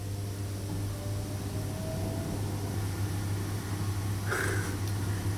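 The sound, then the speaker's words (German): A steady mechanical hum of a self-playing organ's blower motor runs throughout, with a strong low drone under an airy rushing noise as wind pressure enters the pipes, and a brief brighter hiss near the end. “Ja, das ist jetzt der Motor, der läuft. Also, die Orgel spielt ja völlig allein.”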